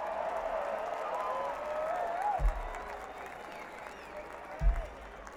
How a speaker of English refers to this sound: How about a nice round of applause and congratulations to Todd Parks on the bass.